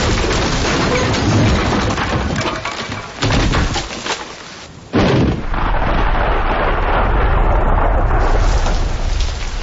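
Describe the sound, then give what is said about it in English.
A tree smashes through a kitchen wall with a heavy, roaring crash, splintering debris amid steady storm rain and wind; the noise briefly drops, then surges back loud and sustained. “They look towards the kitchen window and Danny pulls Bean to safety as a tree crashes in.”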